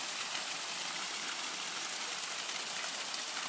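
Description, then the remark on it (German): Steady rushing water flows down from the mountains in a forest at an open-air swimming pool on São Miguel in the Azores. It is a dense, even hiss with no pauses or separate splashes, moderately loud and unbroken for the whole stretch, with no voices. “Wir sind hier mitten im Wald und aus den Bergen fließt Wasser, wie ihr hört.”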